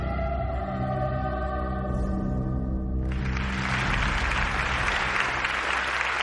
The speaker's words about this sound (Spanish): En un auditorio, el público aplaude al coro infantil.